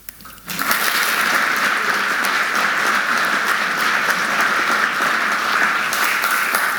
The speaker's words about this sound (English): So I thought we'd encourage them this morning by saying hello to Roma and giving them a little round of applause for their faithful work in Jesus.